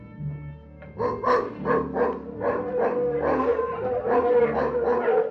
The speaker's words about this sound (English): It's the mongrel dogs. Curse their nasty little throats. Do they give us away? They may wake people up.